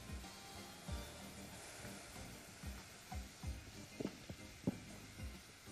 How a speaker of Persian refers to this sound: حالا شروع میکنیم به هم زدن این مایه. پودر ژله انارمون داره با انار در واقع به نقطه جوش میرسه.